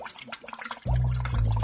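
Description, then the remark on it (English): Bath water bubbles and gurgles, starting as scattered burbling blips, then swelling abruptly into a loud, steady stream of churning bubbles. “I can make some bubbles.”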